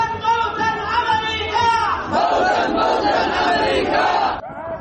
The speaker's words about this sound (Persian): صدای مراسم رژه شبه نظامیان حوثی در استان عمران یمن پس از اعلام تشکیل این ائتلاف.